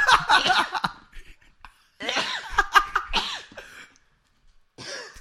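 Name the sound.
sneeze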